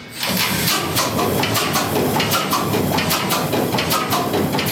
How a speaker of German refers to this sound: haben Kühlwasser offen, haben den Öl vorgepumpt, machen jetzt die Druckluftflasche auf und hoffen, dass wir noch genug Druck haben, um den Motor anzuwerfen. Ich denke, das läuft.